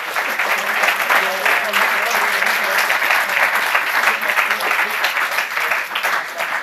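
An audience claps steadily for several seconds for a team's first project, a dense, even wash of many hands, with no clear pauses until it thins slightly at the end.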